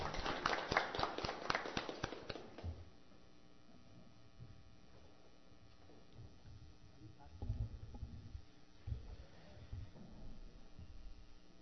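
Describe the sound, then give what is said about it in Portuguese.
A brief burst of dense group applause for a newly sworn-in councillor in the municipal council chamber of Riqueza, Santa Catarina, Brazil, lasting under three seconds before fading into quiet with faint murmurs and low rumbling movement. “Uma salva de palmas.”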